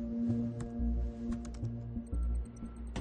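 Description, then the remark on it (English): Quiet typing on a computer keyboard, a scattering of light, uneven clicks over a steady low electrical hum, with no voices. “Hush types on a keyboard.”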